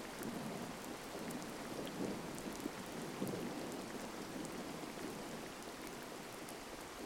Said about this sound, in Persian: به صدای بارون توجه کنید. به آرامشی که به همراهش میاد. قطره‌های پاک بارون هوا رو تمیز و دلپذیر می‌کنن.